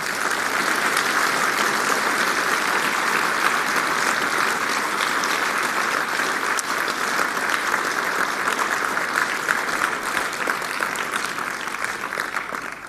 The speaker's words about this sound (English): If we could just clap hands for this work.